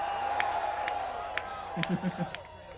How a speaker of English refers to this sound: Please give him a scream. It's a mellow scream. That's okay. How about a big scream